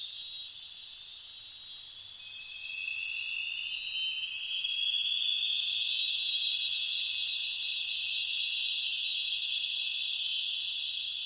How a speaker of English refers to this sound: Also, it was loud enough that you can hear the sonar is essentially reflecting, echoing back and forth over the canyon walls.